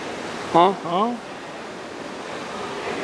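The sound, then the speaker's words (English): A small waterfall splashes in a steady, even rush of water that never lets up. Two short vocal sounds from a person break in near the start, then the water continues alone. “as you can hear behind us, we have this little waterfall going on”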